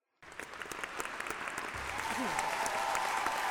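An audience bursts into applause at the end of a play performance, dense crackling clapping that starts abruptly and swells louder, with a faint tonal whoop or cheer rising underneath.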